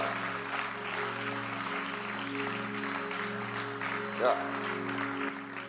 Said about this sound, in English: Yeah. Oh, clap.